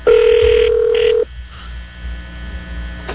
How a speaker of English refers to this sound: I mean, the guy just called on the super secret bat phone.